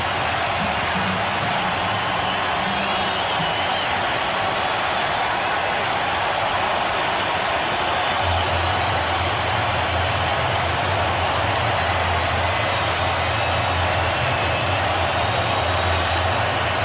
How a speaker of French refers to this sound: Laissons parler la foule.